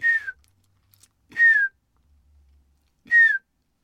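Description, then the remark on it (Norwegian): A person whistles three soft, descending bullfinch calls to lure the birds, each short and mournful, spaced about a second and a half apart, with no talking. “Et enkelt eksempel dumpappen. De fleste klarer å plystre som en dumpapp.”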